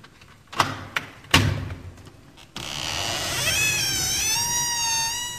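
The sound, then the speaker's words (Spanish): A few sharp knocks on the door of an enormous house at night, then a long, high, wavering creak as an old woman slowly opens the door. Nobody speaks. “Llamaron a la puerta y salió a abrirles una viejecita.”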